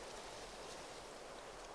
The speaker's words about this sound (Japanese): どこからか水の音がする。